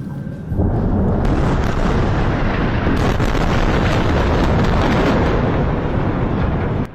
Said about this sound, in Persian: صداهایی که در نوار غزه متوقف نمی شود، بمباران و انفجار، و پس از آن آژیر آمبولانس ها.